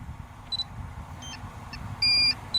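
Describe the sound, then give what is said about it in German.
A drone flying backwards beeps in short, high-pitched electronic bleeps over a steady low motor hum, with several brief tones and one longer, louder beep near the end. “Das Piepen ist normal, Leute, keine Panik.”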